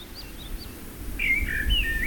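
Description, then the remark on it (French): Turnstones calling on rocks near a beach: a few faint, short chirps at first, then louder, rapid twittering calls, over a steady low rumble like wind or surf. “J'aime observer les tourne-pierres nichées sur les rochers près de la plage.”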